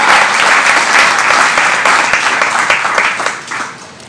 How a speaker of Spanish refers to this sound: ¿Cuántos alaban la gloria del Rey? Aplauda al Señor. Aleluya.